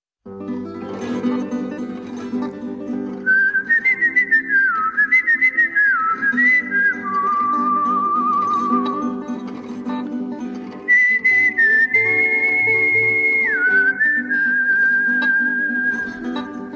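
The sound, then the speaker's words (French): A person whistles the slow, sustained chorus melody of a song over a steady low instrumental backing, the clear tone gliding between held notes in two phrases separated by a short pause. “J'ai sifflé le refrain du chant des partisans”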